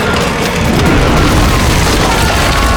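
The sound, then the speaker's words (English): A massive, thunderous crash as a giant creature slams an arm down and smashes through a wooden bridge filled with attendants and soldiers, with deep booming rumble and dense splintering debris filling nearly three seconds, loud. No voices. “The Chasm Fiend slammed an arm down, smashing the bridge filled with attendants and soldiers.”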